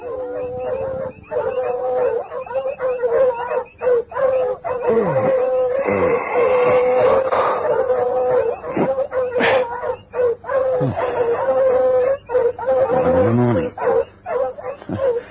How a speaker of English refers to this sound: One night, Volator was awakened by the dogs barking excitedly.